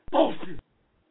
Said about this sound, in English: There you go. It's a coughing bullshit sound.